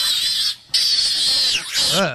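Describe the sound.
A person imitates a pig with loud, shrill squeals: a long high-pitched squeal, a short break, another sustained squeal, then a final wavering burst.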